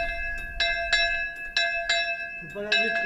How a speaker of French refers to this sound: C'est la cloche d'une école. L'école qui résonne à nouveau donc, dans la cour de récréation, puisque 18 ans après avoir été fermée, eh bien, l'école a rouvert